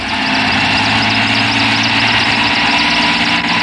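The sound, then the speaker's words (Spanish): A helicopter circles overhead above a refuge, droning steadily, its loud, continuous engine roar mixing low mechanical hum with a broad rushing whine and a faint pulsing texture, with no voices. “Jaciel acciona y grita como si pudiera ser escuchado desde el helicóptero que vuela trazando círculos sobre el refugio.”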